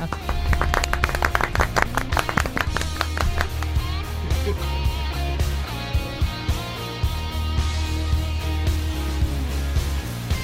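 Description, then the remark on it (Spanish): A burst of dense clapping, loudest in the first few seconds, rings out over a steady musical bed with a low bass hum, then thins as the music carries on. “Un aplausito.”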